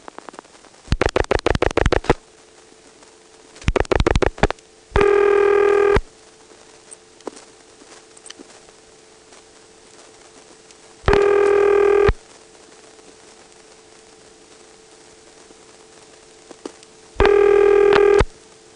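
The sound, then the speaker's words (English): Two quick bursts of dialing clicks, then a telephone ringback tone sounds three times at long, even intervals over a quiet line, with nobody picking up; a telephone test board number is being dialed late at night. “The test board used to be on 174. It's probably on 74 now. It's late at night, so it's probably not going to answer.”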